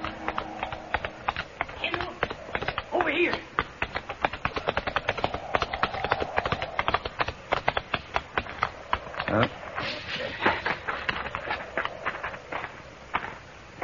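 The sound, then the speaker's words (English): Horse hooves clip-clop in a quick, steady gallop as two riders race toward a range of low-lying hills, a dense run of sharp hoofbeats that continues fairly loud for the whole stretch. “horse easily outdistanced mine, and by the time I reached the first slopes, the cowboy had disappeared into a canyon.”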